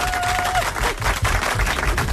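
A crowd applauds a guest on a programme, a dense, crackling patter of many hands clapping at a steady, fairly loud level throughout, with a short steady tone sounding briefly at the very start.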